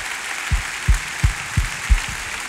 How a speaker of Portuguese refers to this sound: Você pode aplaudir o Senhor? Aleluia!